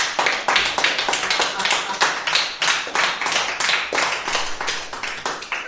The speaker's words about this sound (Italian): Ecco l'applauso!